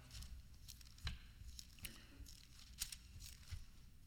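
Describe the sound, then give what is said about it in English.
Soft, scattered rustling of many thin Bible pages being flipped at once as people turn to 1 Chronicles chapter 29, overlapping crinkles and brief swishes with low background rumble. “Oh, how I love to hear those pages turning.”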